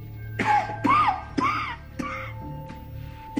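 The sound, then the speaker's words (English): A man coughs repeatedly in a rough, choking fit: about five harsh bursts in quick succession over a steady low background hum, with no talking. “He coughs.”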